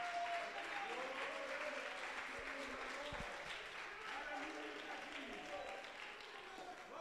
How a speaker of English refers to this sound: Come on, somebody ought to clap your hands right now and thank God.